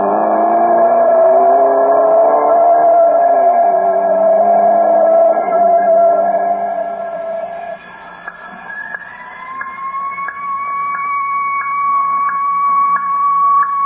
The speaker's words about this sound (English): A siren. What kind? An ambulance siren? Oh, maybe not. Listen carefully. Oh, police cars have a deeper sound. Fire engines waver. No, it's an ambulance, all right.